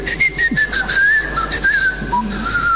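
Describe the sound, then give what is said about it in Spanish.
A person whistles a short, wavering tune as an agreed signal, a thin steady tone sliding up and down for a few seconds, clear over faint background hiss, with no talking. “esta cosa de tener un chiflido a modo de santo y seña suele ser una costumbre hija de...”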